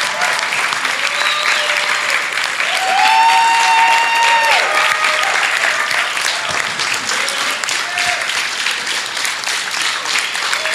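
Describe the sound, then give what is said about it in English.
An audience applauds the newly graduated seniors of 1440, a steady, dense, loud wash of clapping punctuated by a few high whistles and scattered cheers. “Give our former seniors, but now graduates of 1440, a round of applause.”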